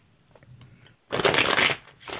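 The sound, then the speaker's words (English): A deck of cards being shuffled for a reading about a relationship: a quiet start, then a loud, dense riffling burst of about a second, followed by a shorter second riffle. No one speaks. “Give me just a moment to shuffle,”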